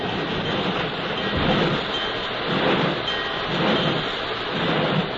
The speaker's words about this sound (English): A half hour later, surely no one was more surprised than Kathy when she found herself being backed out of the train shed, coupled to a wooden caboose, brought to a stop beside the rain-swept station platform.